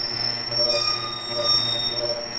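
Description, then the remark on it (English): A garage door in North Baltimore screeches with a sustained, high-pitched metallic squeal, its steady whining tones swelling slightly in loudness over a low rumbling hum, with no one talking. “A garage door in North Baltimore, submitted to Sound Clips by listener Jay Rubin.”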